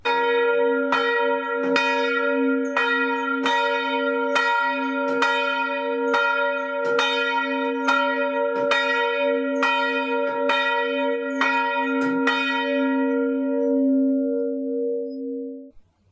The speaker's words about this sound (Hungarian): Hát annyit tesz ez a kijelentés, hogy a vihar és a jégeső ellen, tehát amikor ilyen nem szeretem időjárás kerekedik, akkor azt a nagy harangot nekünk húzni kell. A falu apraja nagyja figyeli, hogy szól-e a nagy harang.